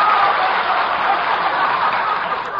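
A steady wash of audience applause, many hands clapping at once into a dense, even roar that stays loud for the whole stretch, with no talking over it.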